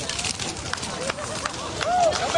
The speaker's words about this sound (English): You hear the crackling. You do hear the crackling, right? The crackling is because that's a fire. And that is a fire being fueled by the burning of books.